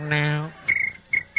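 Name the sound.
crickets chirping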